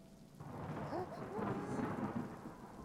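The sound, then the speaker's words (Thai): Steady heavy rain and wind hiss throughout, with a low rumble of thunder rolling underneath, creating a full stormy wash with no voices present. “รออีกนิดเดี๋ยวฝนและลมก็จะหยุดแล้วฝนและลมพัดผ่านมาแล้วก็ผ่านไป”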